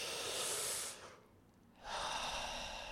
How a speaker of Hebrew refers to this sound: אנחנו עושים את הנשימות האלה דרך הפה או דרך האף לבחירתכם, ומכניסים כמה שיותר אוויר בכל נשימה. איך שמוציאים את האוויר, מיד מתחילה הנשימה הבאה, נשימה מחזורית.